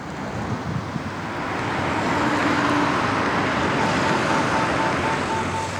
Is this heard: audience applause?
no